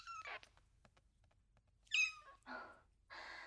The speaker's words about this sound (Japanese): ねえ、君、どこから入ってきたの？こんな年明けから。悪い猫ちゃんだね。ここ、それなりにセキュリティ厳しいと思うんだけど。まあ、猫だし変なところから入ったのかな。